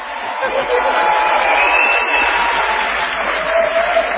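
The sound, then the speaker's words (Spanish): An audience applauds the mayors of Luján, Junín and Villa Gesell in a steady, dense wash of applause that holds at an even, fairly loud level for about four seconds, with a faint crowd murmur mixed in. “Que es hacer aplaudir a los intendentes.”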